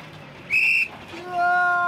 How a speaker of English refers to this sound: Then the little fat policeman gave them a look, raised his silver whistle to his mouth, and blew.